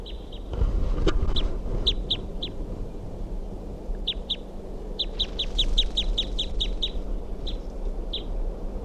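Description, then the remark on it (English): A female wild bird calls in sharp, high chirps, first a few scattered notes, then a quick run of about a dozen evenly spaced chips, over a steady low rumble with no talking. “And that's the wild bird.”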